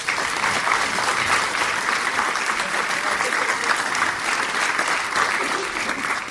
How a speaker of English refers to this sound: I think they all deserve a round of applause at that point.